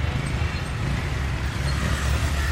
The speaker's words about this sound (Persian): چند تا موتور سوار تو خیابونه. دور میزنن و از کنار ماشین نوری رد میشن.